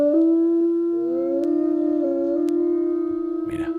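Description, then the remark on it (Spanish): A long, sustained howl holds a steady mournful pitch with slight wavering, and fainter overlapping tones suggest more than one wolf joining in, clear, with no talking. “Eso es un aullido, Mon.”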